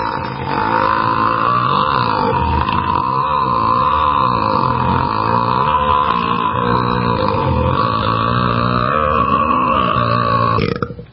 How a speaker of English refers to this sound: That was the first thing I thought of, and I thought, my goodness, I've never, ever burp like that before.